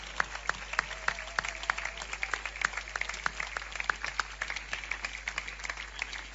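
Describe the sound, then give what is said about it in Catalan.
An audience applauds steadily for several seconds, a dense wash of clapping with a few sharper individual claps standing out, heard at moderate volume without anyone speaking; applause thanking musical groups on stage for their participation. “moltes gràcies, aquest aplaudiment per la seva participació”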